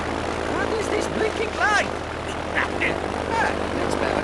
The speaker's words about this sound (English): The strong backdraft from the plane as it takes off scatters Docco's papers around